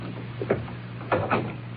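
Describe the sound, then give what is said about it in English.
The door of the warden's office being shut: a soft bump, then a firmer double knock-like clunk as it latches, over a steady low hum with no talking. “Close the door.”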